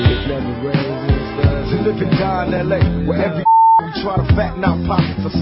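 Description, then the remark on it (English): A single steady electronic beep, a pure mid-pitched tone lasting under half a second, cuts abruptly into dense, busy music and then drops away as the music resumes. “Beeps courtesy of Matt Peterson in about 9 hours of work.”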